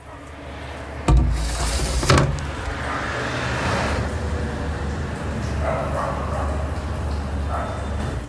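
A dog, Salchi, lets out two sharp, loud barks, followed by quieter yaps under a steady rumble of traffic and outdoor noise.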